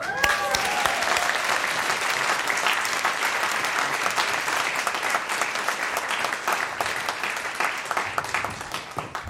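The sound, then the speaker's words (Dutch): Sustained audience applause welcoming a musical guest, a dense steady wash of many hands clapping at even loudness throughout, with a brief voice or cheer near the start. “een groot applaus voor”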